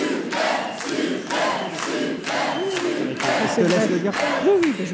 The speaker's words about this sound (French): Eh bien, nous nous arrêtons. On vous applaudit,